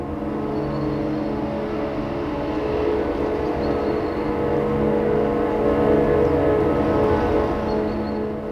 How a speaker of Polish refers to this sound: O godzinie 12 dźwięk syren okrętowych oddał cześć ofiarom katastrofy.